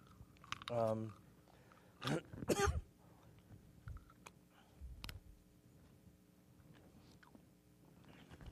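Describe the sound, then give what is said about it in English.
A voiced throat clearing, followed by two brief bursts of crinkly rustling as a cough drop wrapper is opened, then scattered faint clicks and handling noises. “Let me get a cough drop.”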